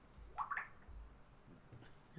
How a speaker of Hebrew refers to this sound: שומע את המים.